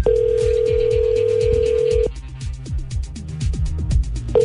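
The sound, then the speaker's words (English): A telephone ringback tone from an outgoing call hums steadily for about two seconds, goes quiet, then starts again near the end, while bouncy background music with a low bass line plays underneath. “He can't hear his phone ringing.”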